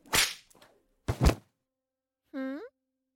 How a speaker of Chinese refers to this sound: 怎么了，小贱货？这鞭子可是你自己选的，怎么刚刚抽了三下就不行了呢？哦，不对，是刚抽了一下，因为前两下是不作数的。